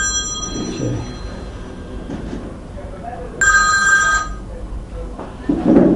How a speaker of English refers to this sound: So I'm sure that's his phone. I'm sure it's the person whose phone is belonging to his phone.